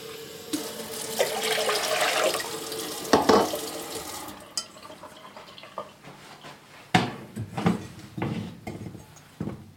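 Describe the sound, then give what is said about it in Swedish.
Tap water gushes steadily into a wide saucepan for about four seconds, filling it with one litre of water while a thumb is held in to feel when it is full, then shuts off, followed by scattered clinks and knocks of cookware being handled. “Sätter jag ner tummen för jag känner när det är fullt. Mm. Och så ska det vara en liter. En liter vatten.”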